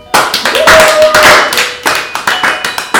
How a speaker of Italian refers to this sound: Applauso